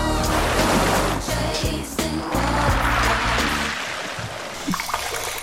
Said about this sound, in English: What about some waves gently lapping against the shore?